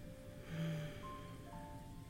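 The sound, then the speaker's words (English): Soft, steady rain patters continuously outside a window, a quiet hiss of falling drops with no voices, muffled and gentle throughout. “Listen to the rain outside our window.”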